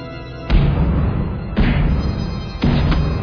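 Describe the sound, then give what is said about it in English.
Three heavy, dull knocks land about a second apart in a slow, even rhythm, each a deep booming thud that rings on briefly, answering a séance call for a spirit to knock three times. No one speaks. “Fester Adams, gather your strength and knock three times.”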